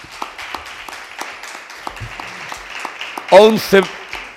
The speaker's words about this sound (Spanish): Vamos a darle un aplauso, ¿no?, a estos amigos.